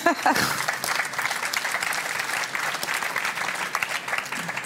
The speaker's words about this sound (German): Dankeschön. Also man dürfte sogar klatschen fürs Lesen.